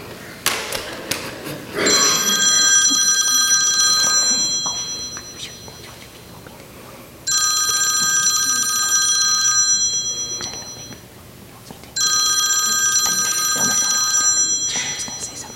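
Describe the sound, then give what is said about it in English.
An old-style telephone rings loudly at a church telethon, three long trilling bursts separated by short pauses, with faint room noise in between. “Hey, can you all answer the phone?”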